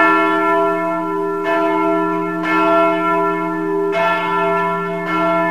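church bells ringing

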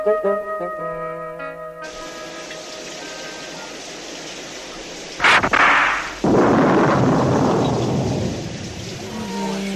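rain falling outside

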